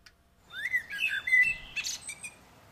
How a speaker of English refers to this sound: The blackbird was recorded outside the window singing live to the track.